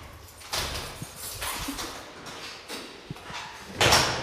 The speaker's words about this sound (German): So, da öffnet sich eine Tür. Ein gekachelter Raum.